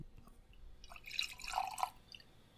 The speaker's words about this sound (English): Now, note that was a very small pour because this is very powerful stuff.